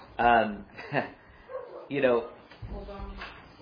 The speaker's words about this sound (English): Hold on. Did someone say something? No, it's a dog.